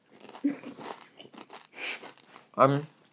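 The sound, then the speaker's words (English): Mushroom, green vegetable and Italian cheese crisps being chewed and crunched, with a few crackly bursts mixed in among voices and mouth noises over a few seconds. “Do you think the Boo Camus probably had enough of us crunching them now?”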